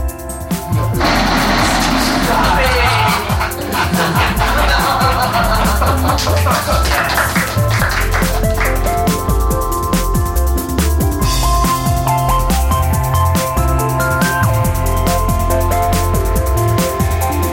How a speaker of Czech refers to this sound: Co byla ten zvuk na konci, ten výbuch mohutný, co se stalo? Tam zaznělo slovo nuclear war. V tom momentě všichni boti a celý ten svět, prostě celé to jejich město explodovalo.